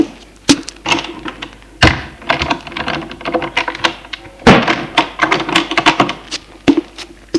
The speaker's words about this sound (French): J'entre et il ferme la porte.